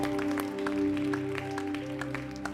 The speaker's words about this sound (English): Thank you, Lord. Give him a big clap.